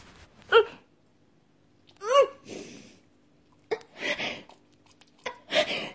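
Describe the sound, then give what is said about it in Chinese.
A dog lets out several short, sharp barks and breathy huffs spaced a second or so apart, fairly loud, with no one talking. “狗也有狗的小心眼儿啊！”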